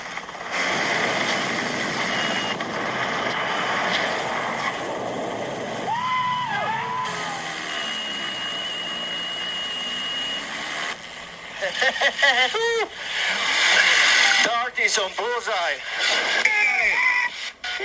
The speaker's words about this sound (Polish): Teraz oglądaliśmy właśnie sekwencję podejścia. Było słychać ten taki piszczący dźwięk jak gwizdek. To jest sygnalizator przeciągnięcia samolotu, czyli samolot ostrzega pilota.